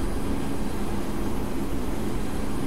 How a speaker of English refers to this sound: These planes flying over my house, and then the plane I'm hearing in my head? Yeah, this is just so weird.